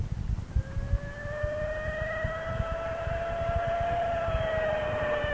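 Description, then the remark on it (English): A car roars along with a steady, rumbling engine while a siren wails over it, its tone slowly rising, loud and continuous throughout with no voices, as it drives in hot pursuit of kidnappers. “We were on hot pursuit of the kidnappers when we drove by Sal Huntington's used car lot”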